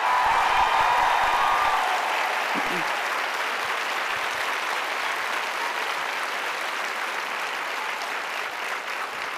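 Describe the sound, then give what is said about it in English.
A large audience claps steadily in appreciation of Jackie Speier's leadership, a dense, loud wash of applause that holds strong throughout and eases only slightly toward the end, with a few faint voices and cheers mixed in early. “She has to be in Congress for votes, but let's show our appreciation for her visionary leadership with a round of applause she can hear all the way back in D.C.”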